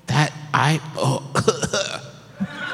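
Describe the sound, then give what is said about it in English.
Several rough, throaty coughs from a person with a cold, coming in a quick uneven series of short voiced bursts, followed by a couple of sharper, harsher hacks. “It's cough. My cold's flaring up.”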